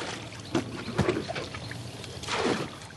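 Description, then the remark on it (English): Small wooden boats ferry people, produce and electronic goods across a narrow river separating northern Malaysia from southern Thailand, with water lapping and gently sloshing and a few soft paddle splashes breaking through at irregular moments, with no voices. “100 yards downstream, men and women in small wooden boats ferry produce, electronic goods, and each other across the narrow ribbon of water that separates northern Malaysia from southern Thailand.”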